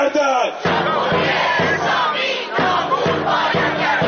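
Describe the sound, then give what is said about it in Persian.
A large protest crowd of Iranians abroad chants slogans in unison at a rally, loud and rhythmic, with regular pulsing beats about every half second and a dense wash of many voices throughout. “همزمان ایرانیان خارج از کشور با تجمعاتشان صدای این اعتراض را به گوش مجامع بین المللی رساندند.”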